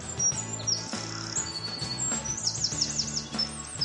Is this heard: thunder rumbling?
no